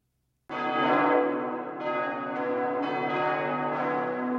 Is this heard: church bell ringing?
yes